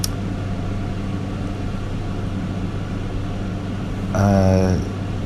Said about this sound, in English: Oh, sorry about the air conditioner.